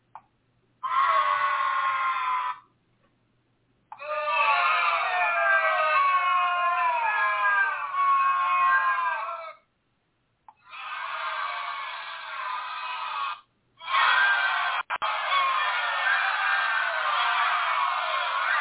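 crowd booing sound effect

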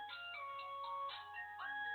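phone ringtone

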